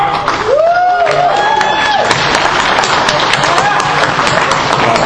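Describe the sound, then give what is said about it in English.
A crowd claps and cheers in a steady, dense burst of applause for a contributor receiving a certificate, with a few voices calling out over the clapping throughout. “I really would appreciate a large round of applause.”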